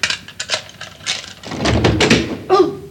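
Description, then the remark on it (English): A door is forced open: several sharp knocks and thumps at first, then a heavier, sustained crash and rattle as it gives way, fairly loud, with no talking. “We've got to get this door open.”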